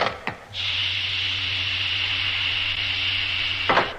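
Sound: door being opened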